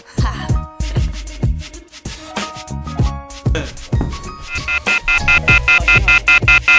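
A phone rings with a melodic ringtone: punchy low beats under chiming tones, then a run of bright, evenly spaced high beeps repeating toward the end. No one speaks.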